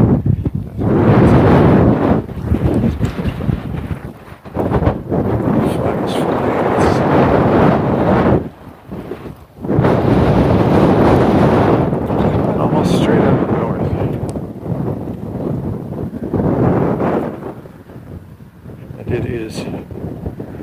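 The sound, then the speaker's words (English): Harsh, sharp wind buffets the microphone outdoors as a person walks past a park, out of the lee of trees, a loud, rumbling roar that surges in gusts for about twenty seconds, dropping briefly into short lulls before blasting back in. “Okay, now that's a sharp wind.”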